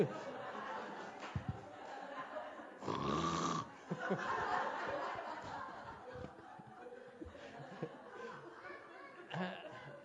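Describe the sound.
A voice imitates a meditation student's loud, rasping snoring in a couple of drawn-out snorts during a meditation retreat, while a crowd chuckles and laughs softly in the background.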